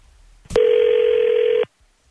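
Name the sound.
telephone dialing and ringing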